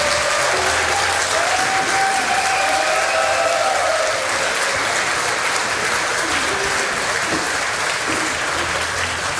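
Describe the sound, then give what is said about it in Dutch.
A live audience applauds steadily, a dense, continuous wash of clapping that holds at an even, fairly loud level for the whole stretch with no talking over it. “Anders moet je zo lang blijven klappen en vindt niemand leuk bij je de handen.”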